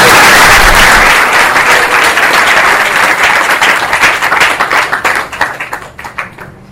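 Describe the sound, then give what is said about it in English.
A crowd at a ceremony where a person has just been given a new name bursts into loud, dense applause, many hands clapping together in a steady roar that gradually thins into scattered, separate claps as it fades out. “Please, one more round of applause.”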